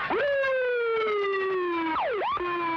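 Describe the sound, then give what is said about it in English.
An ambulance siren wails loud as ambulances arrive, a long steady tone that slowly sags before breaking into quick rising and falling yelps, with no voices present. “As the ambulances arrived, the guardsmen mostly held their ground.”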